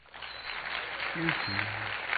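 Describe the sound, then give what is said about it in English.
A polite golf clap: soft, scattered applause from a small crowd, a steady patter for about two seconds, with a brief murmuring voice underneath midway. “Kind of a polite golf clap.”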